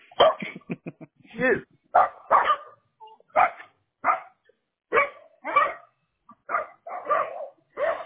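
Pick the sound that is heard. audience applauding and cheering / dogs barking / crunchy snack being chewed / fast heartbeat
dogs barking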